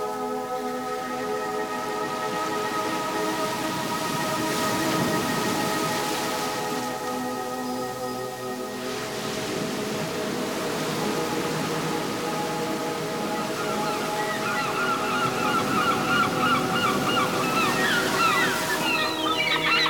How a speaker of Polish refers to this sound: Możesz usłyszeć teraz nawet szum wody i przywołujesz teraz w swoim myśle te piękne wyobrażenia.